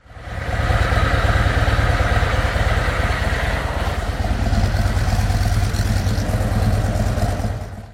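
A motorcycle idles, its exhaust putting out a steady, throbbing low rumble with a fast, even pulse and some mechanical clatter, holding constant for several seconds with no talking, as the engine warms up before an oil change.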